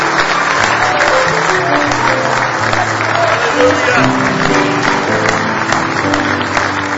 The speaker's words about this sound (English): Say praise the Lord. I believe you can beat that. Let's give the Lord a real good hand clap of praise this evening.